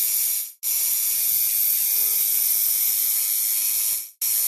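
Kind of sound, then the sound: machine, tattoo machine buzzing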